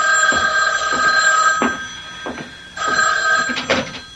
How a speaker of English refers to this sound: But before I could follow the thought through, the phone rang.